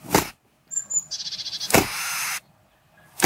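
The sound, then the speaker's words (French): A tit gives a couple of thin, high whistles followed by a quick run of pulsing notes, its call, broken up by sharp, noisy bursts of its wings as it opens them. No voices are heard. “on va écouter encore une mésange qui a un drôle de chant.”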